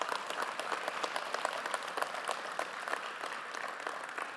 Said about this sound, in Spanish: Y si usted lo cree, levanten un fuerte aplauso al Dios Todopoderoso.